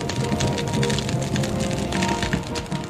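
A fire burns steadily, with a dense, continuous roar full of quick irregular crackles and pops. Nobody is speaking.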